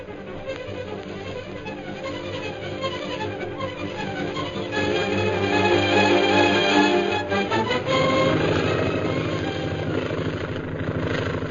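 A droning aircraft engine with a steady propeller-like throb as a plane piloted by Derek Bluger roars in from the hill and circles for a landing, growing louder and fuller midway, then settling into a rough, heavy roar near the end.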